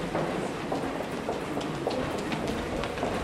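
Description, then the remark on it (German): Steady, dense rumble of a train rolling past in the underpass at a train station, with rattling wheel clatter and a reverberant, enclosed feel; no voices. “Zum Beispiel die Unterführung beim Bahnhof.”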